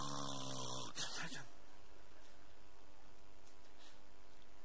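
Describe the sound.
A voice mimics the loud, rasping snore of a large man seated on a plane, in one harsh burst lasting just over a second, then it cuts off into quiet background.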